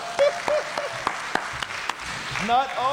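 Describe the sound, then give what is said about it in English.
An audience applauds on the speaker's request, a steady run of sharp, evenly spaced claps, roughly three or four per second, with voices calling and rising in pitch over the clapping toward the end. “I want a real loud one on this one. I am very, very handsome. Yes, that's right. Everybody applaud.”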